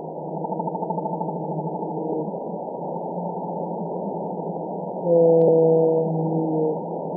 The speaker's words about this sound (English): And these calls are super loud. They're some of the loudest sounds that any animal makes. Well, let's actually listen to we have a recording of Eastern North Pacific blue whales. Let's listen now.